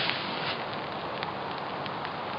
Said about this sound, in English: As you can hear, it is raining. I don't know if you can hear that, but it's raining. Yeah. It is raining. It's not very heavy, is it?